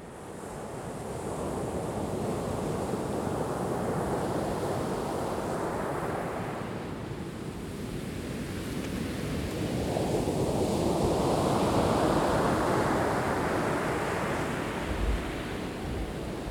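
Waves break and wash onto the shore in a steady, continuous roar, swelling into a louder surge partway through before easing back, with no voices present.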